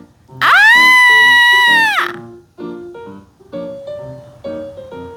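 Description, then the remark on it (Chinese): A girl's loud, shrill scream rings out for nearly two seconds, high-pitched and sustained, then breaks off as a voice begins talking in a calmer tone. “突然，不知怎么一回事，莱斯利尖叫起来。”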